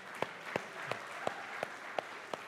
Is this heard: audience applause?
yes